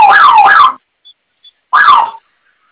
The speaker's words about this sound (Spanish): Listo. Correcto, ¿ya se silenció la alarma ahora sí?